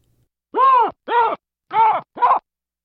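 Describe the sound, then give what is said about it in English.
Four loud, harsh alarm barks from a chorus of female baboons, given at a lion, ring out in a rough, uneven sequence, each a short, tonal, arching call with strong harmonics, separated by brief silences and with no talk. “And that's a chorus of females giving barks to what was a lion on that occasion.”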